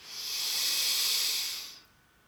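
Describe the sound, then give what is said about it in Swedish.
A single deep inhalation during a guided breathing exercise, breathing in through the whole body, a long airy hiss of breath drawn in steadily for nearly two seconds, fairly soft, then stopping abruptly. No talking. “Avsluta nu med att andas in i hela kroppen.”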